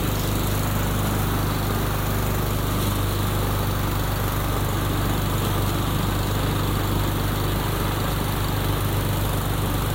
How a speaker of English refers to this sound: So now we're mowing the lawn. Oh, God.